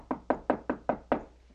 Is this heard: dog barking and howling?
no